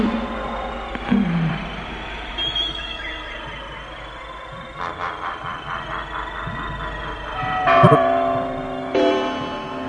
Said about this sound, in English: Hear the tolling of the bells, iron bells. What a world of solemn thought their melody compels.